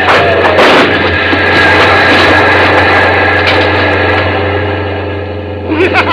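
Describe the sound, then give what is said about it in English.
A train rushes past a level crossing with its gates down in a loud, continuous roar with a deep, steady rumble underneath, a sharper burst early on, then the noise eases slightly near the end. “We'll beat the train without any trouble at all.”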